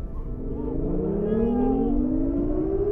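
Street traffic in a town, a car engine revving up with its pitch climbing steadily over a dense, continuous rumble of vehicles as the streets fill with fleeing cars.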